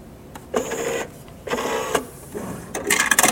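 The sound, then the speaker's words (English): A touch-controlled fridge ice dispenser whirs in several short mechanical bursts, then ends with a louder, rattling clatter as ice drops out into a glass held underneath. No one speaks. “look, I have ice in my drink now.”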